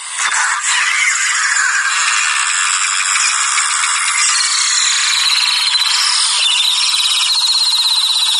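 A dense, steady fizzing crackle of tiny bubbles as air leaves a piece of chalk through very tiny holes while water goes into it, bright and hissy with countless rapid pops, continuous and fairly loud throughout, no voices.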